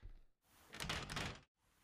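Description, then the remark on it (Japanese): The only exit door, already locked, is tried and rattles against its lock, a loud burst of clattering and knocking about a second long, preceded and followed by brief quieter thuds. “唯一の出口であるこの扉もすでに施錠されてしまっているようです。”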